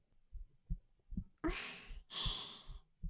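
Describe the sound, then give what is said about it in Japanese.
A muffled heartbeat thumps steadily, about two beats a second, while two long, airy breaths rush over it partway through. “ご主人様も私でドキドキしてくれてるんですか？”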